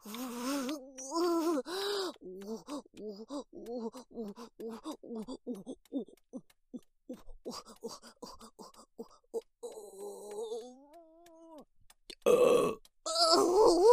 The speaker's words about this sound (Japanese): ピストンでお腹の中刺激されてゲップ出る。